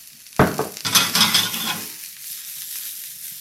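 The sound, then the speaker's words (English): Asparagus drops into a hot pan with a sharp burst of sizzling oil, then a steady crackling fry that gradually settles to a softer hiss, with no talking. “I'm going to pop the asparagus in. Maybe a touch more oil just to get that sizzle back.”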